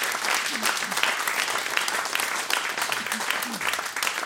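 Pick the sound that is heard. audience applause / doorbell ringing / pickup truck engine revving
audience applause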